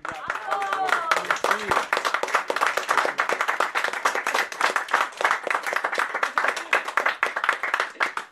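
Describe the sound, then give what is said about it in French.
A room of dinner guests at a Wine Story association wine evening breaks into general applause for the visiting winemaker, many hands clapping in a dense, steady patter that stays loud for the whole stretch, with a voice briefly heard at the very start. “Est-ce qu'on pourrait demander applaudissement général”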